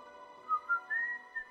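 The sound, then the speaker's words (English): A short whistled melody of a few clear notes stepping upward, the last one held a little longer before a brief closing note. It is fairly soft, with no voices. “Marie whistled a tune as she carried the headless body of a chicken toward the kitchen.”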